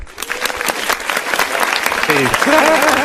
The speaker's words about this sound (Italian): Sono contento di questo applauso su una cover spinosa.